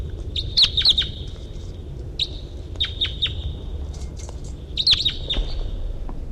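A wild bird chirps in short, high, bright bursts, some in quick clusters and others spaced singly, over a steady low rumble with no one talking.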